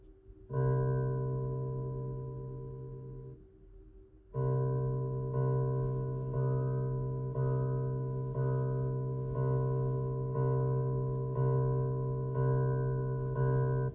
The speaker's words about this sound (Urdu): یہ tone 65.4 hertz کا تھا اور یہ بالکل پیور تھا. اس کا اندازہ آپ کو یوں ہو سکتا ہے کہ یہاں پر 0 سینٹس لکھا ہے اور یہ C2 نوٹ ہے.